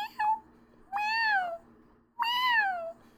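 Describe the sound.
A human voice imitates a kitten's meowing: a short high mew, then two longer, drawn-out meows that rise and fall, clear, with pauses between.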